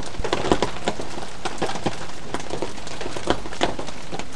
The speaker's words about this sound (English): It might be someone's telly, or it might actually be the fridge in the kitchen because the microphone's set quite loud so that you can hear everything. Anyway, I'll shut up now and you can continue listening to the rain and the fridge.